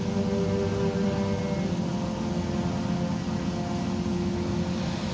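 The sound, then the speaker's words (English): Shuttle engines roar in a steady, heavy drone with a low rumble and humming overtones, loud, holding at constant power throughout without any voices, as a small shuttle descends from orbit to land at Solar Federation headquarters. “All engines throttled down and locked to safe.”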